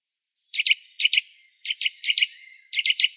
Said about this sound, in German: Hören wir uns nochmal an, den süßen Kleiber.